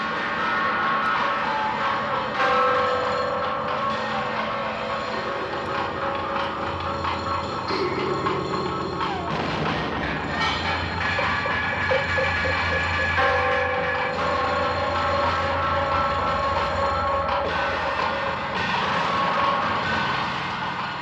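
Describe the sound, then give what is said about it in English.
Eerie experimental horror-film music, theme music from The Texas Chainsaw Massacre soundtrack played on assorted instruments: a dense, unbroken wall of droning, metallic scraping and shrill tones that swells and shifts steadily for the whole stretch, loud, with no voices. “That is the Texas Chainsaw Massacre, some of the theme music that courses through the entire film.”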